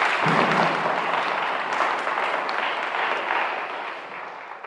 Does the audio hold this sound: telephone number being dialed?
no